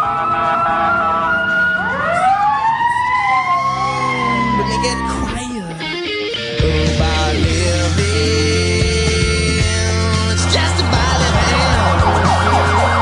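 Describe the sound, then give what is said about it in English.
A fire engine siren wails loudly as it comes the other way along a busy street in Boston, its rising and falling sweeps passing over steady traffic rumble and engine noise. “There's a fire engine now coming the other way along the street.”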